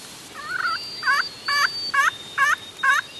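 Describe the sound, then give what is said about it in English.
A turkey hunter scrapes a disc of slate with a stick, a slate turkey call producing a rhythmic run of about six raspy hen yelps, evenly spaced, with no one talking over it; the friction call imitates a turkey hen. “takes out a disc of slate and begins to scrape it with a stick.”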